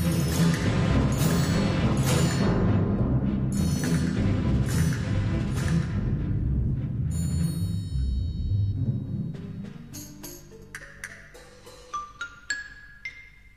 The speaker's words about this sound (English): And now, percussion all together.